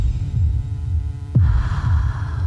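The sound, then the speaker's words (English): A deep, throbbing heartbeat sound effect pulses steadily in the low end, with a sustained ominous hum beneath it and a sudden swell of brighter tone midway through; from a clip of Water for Elephants. “Well, we leave it on a very ominous tone there. That heartbeat.”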